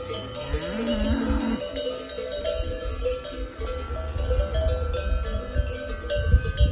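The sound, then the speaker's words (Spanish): Cowbells clank and jingle continuously as a herd of hundreds of cattle moves along, setting out on a journey near a village of about 30 inhabitants in Gredos, Spain, with several low, drawn-out moos rising over the steady metallic clatter. No one speaks. “Los cencerros, los mugidos de las vacas junto al vídeo.”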